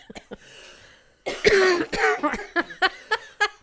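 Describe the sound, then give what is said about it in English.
A raspy coughing fit from a cough that will not go away: a few light hacks, then one heavy wet cough followed by a rapid string of sharp, dry coughs. No talking. “I have a cough that will not go away.”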